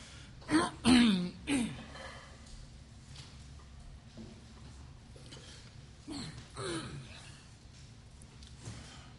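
A man clears his throat roughly a few times, followed by a quieter cough-like rasp a few seconds later, with low background noise in between.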